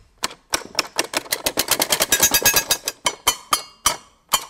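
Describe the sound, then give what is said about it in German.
A percussion instrument with a metal plate, whose beater strikes the plate when pressed, clatters in rapid, sharp clicks like a typewriter, starting sparse, crowding into a fast dense run, then thinning out to a few separate taps. No one speaks. “Wenn man drauf spielt, dann klingt das fast wie eine Schreibmaschine.”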